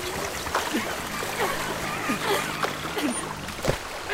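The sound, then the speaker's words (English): Someone swims toward shore through water, with repeated irregular splashes and sloshing over a steady wash of moving water, and faint voices now and then underneath. “I'll hold on to your backpack. Now swim. Swim to shore.”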